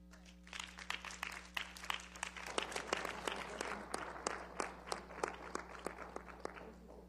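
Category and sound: crowd, audience clapping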